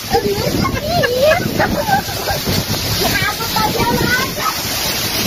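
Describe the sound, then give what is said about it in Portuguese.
A steady, loud roar of heavy rain mixed with hail (ice) pours down without letup in the village of Maria Preta, Lago da Pedra, while a person talks over the downpour throughout. “É gelo, meu filho. E agora granizo.”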